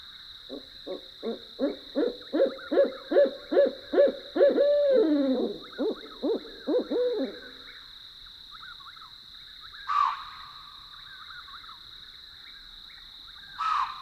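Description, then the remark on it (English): A rapid series of loud, rhythmic hoots builds into a wild, wavering caterwaul of barred owl calls in the dark of night, then trails off into night quiet with a steady insect drone and a couple of sharp calls. “Barred owls, hooting in the dark of the night.”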